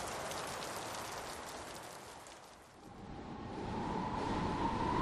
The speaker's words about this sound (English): At that moment, the first heavy drops of rain began to splatter around them, glittering in the dusk light like new minted coins.